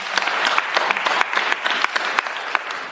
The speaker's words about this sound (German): Und ich bin ehrlicherweise sehr froh, dass Sie mir die stellen, auch für den Beifall, den Sie bekommen haben für Ihre Frage.